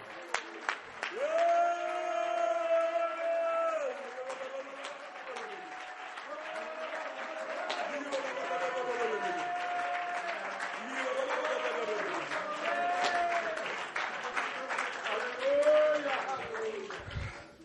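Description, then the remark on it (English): An audience claps their hands unto Jesus in worship for about seventeen seconds, a dense crackle of many overlapping claps, with raised voices calling and singing out over the clapping throughout. “Clap your hands one more time unto Jesus.”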